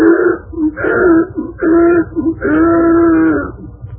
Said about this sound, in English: His beard was warm and thickly and soft. It made the donkey want to sneeze. But the sneeze turned into a bray, a most tremendous bray.